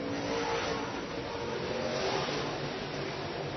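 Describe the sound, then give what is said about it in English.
Steady, loud roar of race car engines on a speedway, a dense continuous drone with shifting engine tones as the cars accelerate and the top four cars pull away from the fifth-place car, with no voices. “Top 4 cars start to pull away from that 5th place car of the 66 of Bresnahan”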